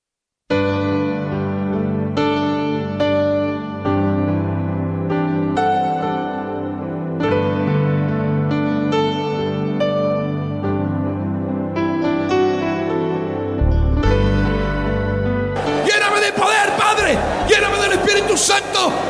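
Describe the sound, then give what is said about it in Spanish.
An audience at a worship service bursts into loud shouting and crying out together over the last few seconds, a dense, overlapping roar of many voices following a stretch of sustained, tonal vocalizing. “¿Por qué no se paran a clamar ya? Se paran a gritar, hermano.”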